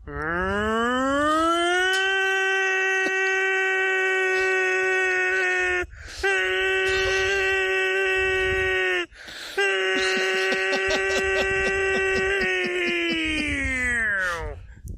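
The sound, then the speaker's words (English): A man's voice imitates a tornado siren: three long, loud wailing tones, each swelling up at the start and then holding a steady pitch, with short breaks between them. “He seemed to be imitating a tornado siren.”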